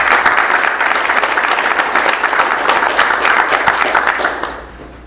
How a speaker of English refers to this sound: How about a round of applause for all those folks?